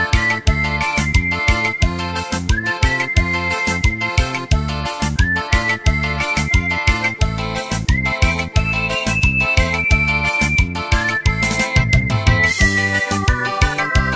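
Someone whistles a sliding, sustained melody over loud, busy music with a steady pounding beat. The whistle carries continuously through the whole passage, with no talking.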